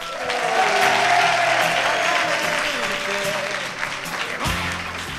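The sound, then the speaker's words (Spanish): An audience claps loudly and steadily for about five seconds during a live radio broadcast at the IES Antonio Sequeiros school in Almoradí on Monday, 14 May 2018. It is a dense, sustained wash of applause that holds its level before easing slightly at the end, with a faint tonal hum underneath. “¡Un aplauso!”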